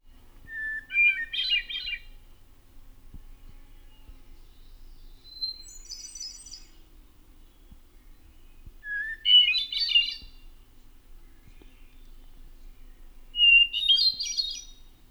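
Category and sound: bird, hermit thrush singing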